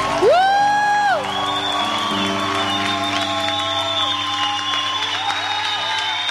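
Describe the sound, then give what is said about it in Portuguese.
A crowd claps and cheers for Our Lady (Nossa Senhora) on the Verdes Florestas radio station. A loud, rising whistle-like tone sounds at the start, with sustained tones running underneath the dense applause. “E aplauda Nossa Senhora.”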